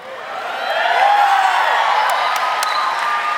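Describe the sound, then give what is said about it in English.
An audience cheers steadily for a few seconds at a mention of Texas Roadhouse, a dense roar of voices with scattered high whoops and whistles rising over it, fairly loud throughout. “It's the only time people from Oklahoma cheer for anything with Texas in it.”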